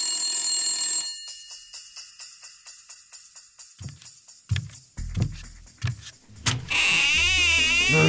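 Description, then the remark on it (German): An old orange 612 rotary telephone inside a refrigerator's vegetable drawer rings loudly at first, then continues as a faint, muffled rattle beneath clunking and thudding rummaging noises, ending in a wavering high electronic tone. “Ruf mich nochmal an! Willst du nicht mal rangehen?”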